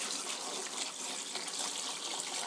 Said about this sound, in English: Drop canister into the bottom of the sink, like so. How do I turn on the tap? Right. Out comes water. Rinse hands.